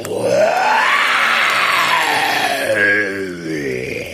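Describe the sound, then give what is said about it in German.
A tiger roars in the jungle in one long, loud bellow that swells upward in pitch, holds, then sinks and trails off with a rough growl. No other sounds accompany it. “Plötzlich dringt ein fürchterliches Gebrüll durch den Dschungel.”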